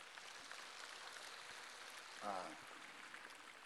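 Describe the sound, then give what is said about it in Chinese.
Light, scattered clapping from an audience at a Buddhist dharma talk, a soft continuous patter throughout with no strong bursts, and a brief murmur of a voice partway through. “你看，一讲到专业术语了，马上鼓掌的声音都很轻了。”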